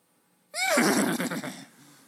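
A horse lets out one loud whinny that starts abruptly, rises and wavers with a shaky, fluttering tone, then trails off into a breathy snort after about a second and a half.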